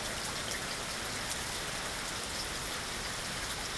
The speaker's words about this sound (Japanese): 道中、彼らは雨に濡れた花や葉っぱを眺め、雨音を聞きながら森を歩きました。